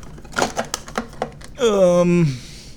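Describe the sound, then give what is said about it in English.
Hard objects clatter and knock as someone rummages through a cluttered drawer looking for monofilament, a quick, uneven burst of clacks, followed by a drawn-out wordless vocal groan. “I got a lot of crap in this drawer. And I can't find my monofilament.”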